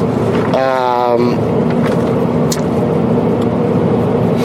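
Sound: car driving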